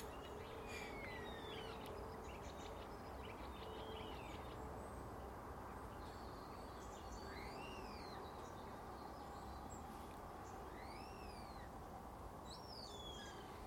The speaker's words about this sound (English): Train approaches from the west, I think. Maybe going away.